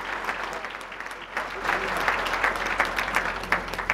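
At a Red Wings event, a crowd gives sustained applause for the team's broadcast team. A dense patter of many hands clapping swells slightly after the first second and holds steady at a moderate level throughout.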